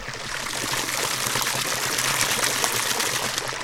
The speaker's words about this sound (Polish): Niezwykłe miejsce, bo leje się Coca-Cola. No, Coca-Cola to nie jest, jest to woda w kolorze Coca-Coli, ale gdyby nalać do butelki, mógłby się człowiek na to dać nabrać. Ale to jest woda, proszę pana? To jest woda. Jest to studnia artezyjska